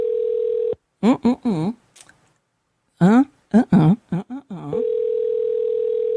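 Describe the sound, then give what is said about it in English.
A steady, loud telephone dial tone hums as someone dials a phone call, which turns out to be the wrong number; it cuts out for a few seconds of short voiced bursts, then resumes and continues to the end. “Oh, I'm dialing the wrong number.”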